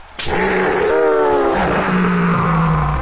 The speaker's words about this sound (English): As if to prove that point, the hellhound broke free of its bindings after only a few seconds with a piercing howl. It growled and glared at its target for a moment before leaping at Boxy once again.